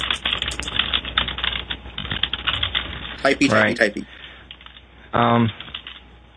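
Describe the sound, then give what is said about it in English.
Rapid clicking of someone typing an answer in a chat on a computer keyboard, an uneven burst of keystrokes, followed by a couple of short voiced sounds with no clear words. “Yeah, I'm typing an answer in the chat.”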